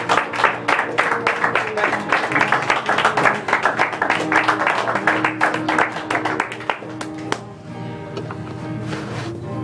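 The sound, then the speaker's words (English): A crowd claps together in a dense, loud burst of applause for about seven seconds, then it thins to a few scattered claps over a steady sustained musical tone; a hand clap of praise during worship. “Worship Him and give a hand clap of praise.”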